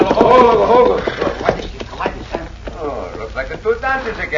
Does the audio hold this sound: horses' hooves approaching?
yes